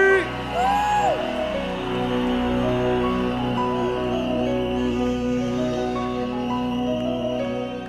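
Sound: crowd cheering and whooping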